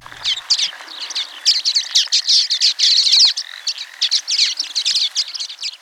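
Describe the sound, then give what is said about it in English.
Common waxbill calls in the lowlands of Hawaii, small finches native to Africa: a busy, continuous stream of high, buzzy chirps and short twittering notes in rapid irregular bursts, fairly loud, with no talking. “this week, University of Hawaii at Hilo Professor Patrick Hart introduces you to the tiny waxbill”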